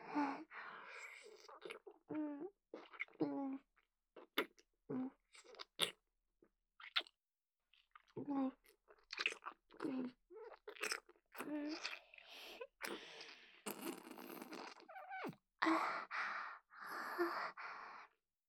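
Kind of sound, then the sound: food or drink, crunchy chewing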